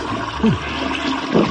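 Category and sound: household object, toilet flushing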